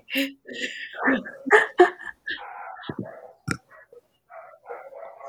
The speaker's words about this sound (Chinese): 狗在吵架， 很嗨耶！